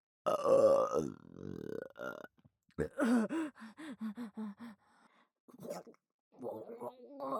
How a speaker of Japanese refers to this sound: 顔が勝手に動く。無理やり変顔させてゲップ出させんな。